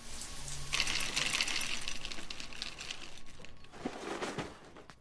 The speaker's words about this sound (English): In the kitchen, Linda pours cereal into a bowl.